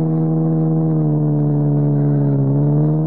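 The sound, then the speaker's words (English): A car engine drones steadily while driving, a loud, even mid-pitched hum with a rich buzzy tone that dips briefly in pitch before settling again. No voices. “Another car behind us?”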